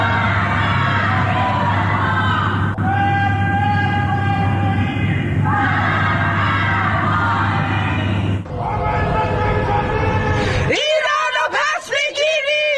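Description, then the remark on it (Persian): Many voices chant anti-government slogans together from their homes on a Friday evening in Iranian cities including Tehran, Mashhad, Shiraz, Malayer and Karaj, in loud, rhythmic bursts that rise and fall in waves, with shouts and cries overlapping; near the end a few higher individual yells stand out above the crowd. “در آستانه سالگرد جانباختن مهسا امینی شامگاه جمعه مردم در برخی شهرها از جمله تهران، مشهد، شیراز، ملایر و کرج از خانه‌های خود شعارهای ضد حکومتی سر دادند.”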